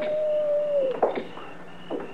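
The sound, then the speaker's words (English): A lone coyote howls far off at night by the deserted main street of Abilene, one long thin note that holds steady and then slides downward and fades, followed by a few faint scuffs in the quiet. “If coyotes is as lonesome as they sound.”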